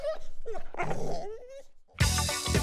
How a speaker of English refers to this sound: of young pit bulls on choker chains, letting the dogs get within inches of tearing each other apart.